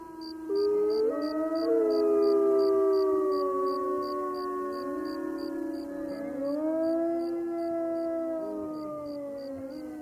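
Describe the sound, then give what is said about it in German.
Several wolves howl together in long, overlapping, wavering tones that rise and fall over about ten seconds, with a steady faint chirping of insects in the background. “Gibt es hier Wölfe? Natürlich, blöken die Schafe. Hörst du sie denn nicht?”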